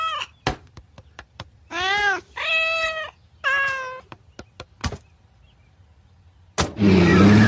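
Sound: cat meowing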